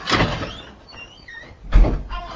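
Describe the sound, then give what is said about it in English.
A door moves twice, with a broad scraping thud at the start and another heavier knock near the end, separated by faint squeaky, whistling tones. “Oh, I left the door open.”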